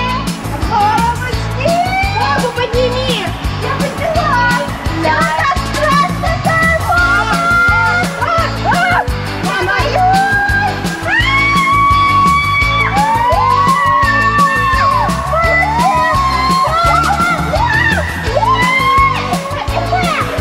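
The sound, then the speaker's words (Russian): Several people squeal and shriek on water slides, high wavering cries rising and falling over a steady, dense wash of background noise, with scattered shouts throughout. “Вот визжат, а? Не, ну горки-то тут, конечно, классные.”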